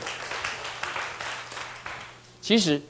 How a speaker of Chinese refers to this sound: 哦，我们拍拍手，谢谢他了。